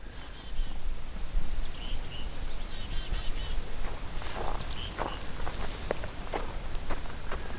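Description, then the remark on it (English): A flock of chickadees calls in scattered high, thin chirps, fairly faint, moving through the branches among red pines and birch trees, over crunching footsteps and a steady outdoor rushing background. “And then there are birds, these amazing little clouds of chickadees that come vibrating through the branches.”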